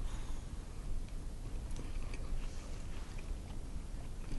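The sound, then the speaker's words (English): Someone munches a mince pie right against the microphone during a taste test comparing Mr. Kipling and a supermarket brand: soft, irregular chewing clicks and squelches over a steady wash of low noise, with no talking. “Everybody can hear me munching down the microphone.”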